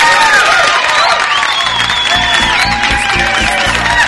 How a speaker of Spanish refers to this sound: ¡Aplausos!